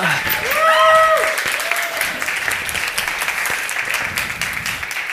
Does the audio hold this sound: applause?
yes